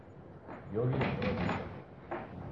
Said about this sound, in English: Stop playing with the door.